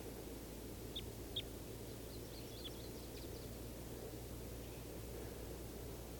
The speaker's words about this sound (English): There are at least three birds in the trees. 391, another male and a female. And I think this is the female at the top of the tree that's calling.